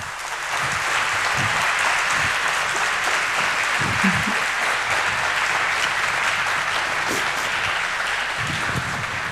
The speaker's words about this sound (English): Enjoy your applause. Well deserved.